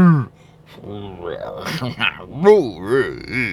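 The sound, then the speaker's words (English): A voice makes drawn-out, wavering vocal sounds imitating the Spirit's inarticulate groanings, with a low opening moan followed by rising and falling wordless tones, moderately loud. “These are groanings. Kind of like a cow giving birth.”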